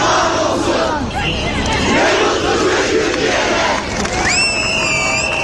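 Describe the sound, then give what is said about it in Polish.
A large crowd of protesters shouts and cheers loudly and continuously, a dense roar of voices with possible clapping, and a few high whistles cut through near the end, greeting a mayor being led into court with applause and shouts of support. “Wprowadzanego do sądu burmistrza protestujący przywitali oklaskami i okrzykami wsparcia.”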